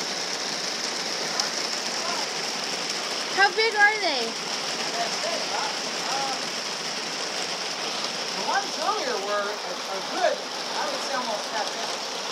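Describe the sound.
Steady, dense rain of big drops patters onto a hard surface, forming a continuous hiss, while a person talks briefly over it.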